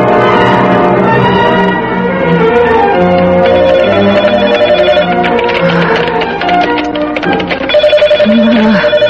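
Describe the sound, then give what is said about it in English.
A telephone rings loudly and insistently, its bright, tonal trill repeating in quick pulses throughout, with no one speaking. “Why can't I let the phone ring like a normal person?”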